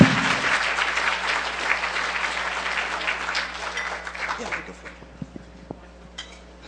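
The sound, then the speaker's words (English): An audience claps together for a speaker in a dense, steady burst of applause that thins out over the last few seconds, leaving a handful of scattered claps before it stops. “Give him a round of applause, everybody.”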